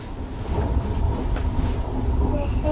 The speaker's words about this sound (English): Mm-hmm. Thunder. That's right.